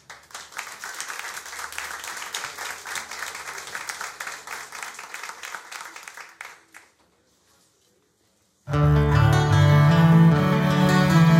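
Dense, steady audience applause for a maestro on the cello rattles on for about six seconds, fades into a brief silence, then loud instrumental music begins with sustained low, warm tones.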